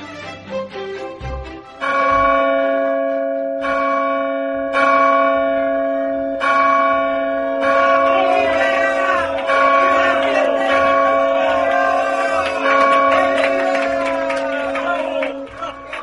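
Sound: church bells pealing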